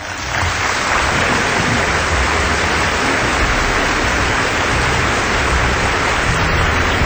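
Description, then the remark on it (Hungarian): A person urinates in a loud stream that splashes steadily and without a break for several seconds, a continuous hissing pour with no voices. “Van olyan jó vizelés, ami után már akár meghalni is érdemes.”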